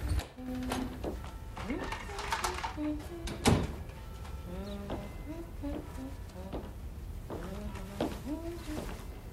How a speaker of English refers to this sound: Thomas comes through the front door.